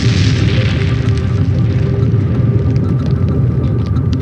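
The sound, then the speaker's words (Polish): A massive car bomb explosion at the wall of the Polish base in Ghazni, a heavy, sustained boom with deep rumbling that stays loud and dense for several seconds, with no voices present. “Nie zdążył sobie odpowiedzieć, bo w tej chwili rozległ się huk eksplozji, którą nagrały kamery monitoringu.”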